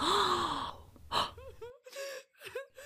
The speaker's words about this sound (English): Some covered their mouth as they gasped in awe.